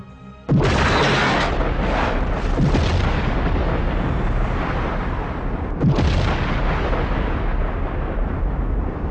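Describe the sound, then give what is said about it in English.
A sudden, massive explosion effect representing the Big Bang bursts in after a brief quiet, then rolls on as a loud, sustained rumbling roar, with a second booming surge near the end, and no voices. “That proof came from the Big Bang theory.”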